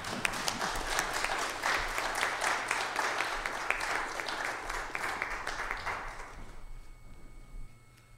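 An audience applauds steadily, dense clapping with occasional sharper claps, fading out over the last couple of seconds into quiet.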